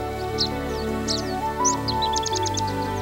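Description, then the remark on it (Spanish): Birds sing and chirp in the morning over a steady low hum, with short whistled phrases followed by a quick series of rapid repeated notes. The calls are fairly clear, with no talking. “se levantó de su cama sintiendo el aroma de la mañana y escuchando el canto de las aves.”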